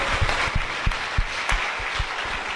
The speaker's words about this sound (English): Brown's Advanced Care Pharmacy, congrats on the 60 years, and thanks so much for being here this morning. Big round of applause.